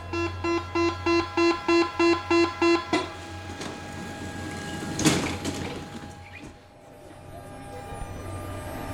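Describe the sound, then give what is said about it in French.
Inside a metro carriage, a rapid series of about ten loud electronic door-warning beeps sounds over a steady train hum, followed by a sliding door thudding shut and the carriage rumbling on. “Adossée à la porte du wagon, j'observe les autres passagers.”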